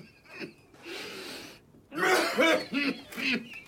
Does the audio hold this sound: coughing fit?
yes